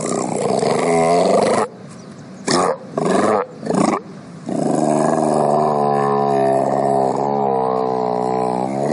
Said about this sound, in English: That's what a monk seal sounds like.